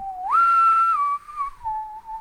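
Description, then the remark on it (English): A person whistles an imitation of the iPhone ringtone called Sci-Fi: a steady tone that swoops up, holds high, then glides down in steps to a lower sustained pitch, with no talking. “But I've recently acquired a new iPhone, and I've made my ringtone the same ringtone that he has back in the office. Which is? It's called Sci-Fi.”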